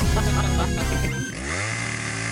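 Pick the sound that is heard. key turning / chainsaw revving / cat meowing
chainsaw revving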